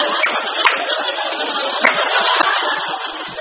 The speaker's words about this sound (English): Really, it's nice to see people applaud for themselves a lot.